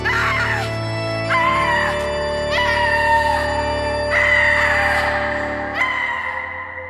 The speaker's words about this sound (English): The officer approaches. As he tries to get close, she just screams. It was the loudest scream he'd ever heard in his life.